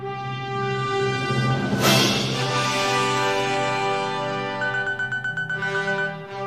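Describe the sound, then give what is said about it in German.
An alarm clock rings at 6 a.m. on a Monday with a bright electronic melody of steady, sustained notes, swelling briefly early on, then breaking into a quick run of rhythmic pulsing beeps before the tune resumes. No one speaks. “Montag, 6 Uhr morgens. Mein Wecker klingelt.”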